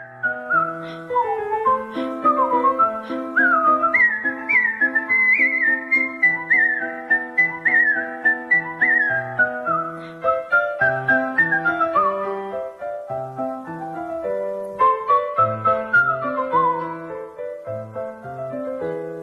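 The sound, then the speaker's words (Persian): Someone whistles Mozart's Turkish March, part of Mozart's Piano Sonata No. 11, a lively, brisk classical melody, clear, with quick ornamented runs and sliding notes that continue without pause for the whole stretch. No one speaks. “حالا یه اثری که تازه از موزارت زدم ترکیش مارچ، قسمتی از سونات شماره 11 پیانوی موزارت که یکی از مشهورترین این آثار پیانوی موزارته.”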